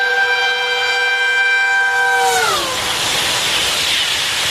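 A passing train blares a steady horn chord whose pitch sags as it goes by, then a loud rushing, hissing roar of the cars rolling along the rails fills the rest.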